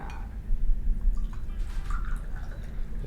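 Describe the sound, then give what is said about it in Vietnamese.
Hot tea is poured from a teapot into cups before a Chinese-style meal at a rotating table, a steady liquid trickle with a few soft drips and splashes over a low background rumble, no one speaking. “Luôn có một cái bình trà nóng trước khi mà mình ăn, thì bây giờ em rót trà cho nè.”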